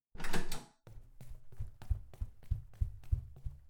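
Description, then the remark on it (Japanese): Police with a warrant forcibly unlock and open a suspect's door: a brief loud rattling burst, then a steady run of about nine low mechanical clacks at an even rhythm, with no voices. “早く開けないとドアの鍵を壊して入ることになります。こちらには令状があるので、おとなしく。開いた。”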